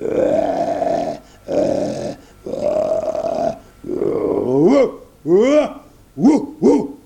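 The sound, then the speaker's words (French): A human voice imitates two huge dogs growling fiercely: several rough, sustained snarls, then shorter rising and falling growls in quick bursts, loud with short pauses between. “Il vit deux énormes gros chiens qui se mirent à grogner férocement.”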